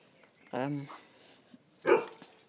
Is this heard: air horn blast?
no